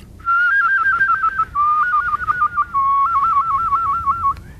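A person whistles rapid trills, a clear tone flickering quickly between two close pitches in three sustained phrases, each stepping slightly lower, loud with no talking.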